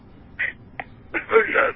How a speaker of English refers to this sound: I'm so embarrassed. I'm still blushing. I am. What ringtone was that?